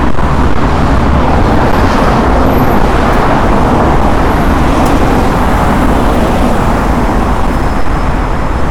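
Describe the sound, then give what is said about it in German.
Steady, loud roar of heavy traffic on a busy main road right by the Moscow Railway Station, with cars and larger vehicles, including many departing intercity buses, passing continuously and blending into a constant rumble; no one speaks. “Und ihr seht, ich gehe an einer ziemlich stark befahrenen Hauptstraße vorbei, ne?”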